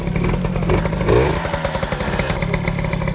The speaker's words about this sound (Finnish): kun mopo on paikalla, niin miksi kierroksia pitää nostaa? Kone lämpee nopeammin